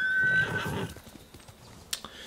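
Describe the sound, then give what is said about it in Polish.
A horse gives a short, high whinny at the start, followed by soft hoof clip-clops and a few light knocks in a quiet game-like setting. “Aha, tylko koń przez to nie przejedzie, tak?”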